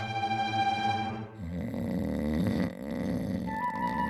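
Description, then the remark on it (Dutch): Loud snoring with no talk: a long, buzzing, droning snore followed by a rougher, rattling breath that rises and falls over a few seconds. “Die slaapt weer.”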